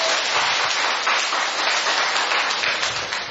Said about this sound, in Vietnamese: Rồi, chúng ta cho một tràng pháo tay thưa anh chị em.